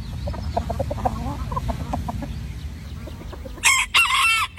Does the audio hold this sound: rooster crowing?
yes